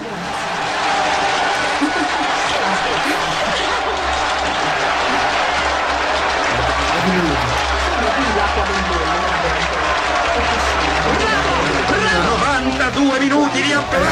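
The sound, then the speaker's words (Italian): Sustained applause from a large audience fills the whole stretch, a dense, steady wash of clapping with crowd noise and murmuring voices mixed in, loud throughout. “Il doppio di applausi, aspetta.”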